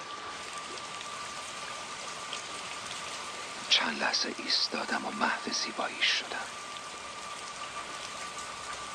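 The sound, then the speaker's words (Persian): Steady rain falls outside the door of a home in the late afternoon, a dense even hiss of drops pattering on surfaces, while a soft voice speaks briefly over it midway before the rain continues alone. “امروز عصر از در خونه بیرون رفتم و داشت بارون میومد.”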